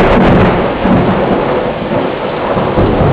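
A loud thunderstorm: steady heavy rain with a deep rolling rumble of thunder underneath, continuous, with no voices.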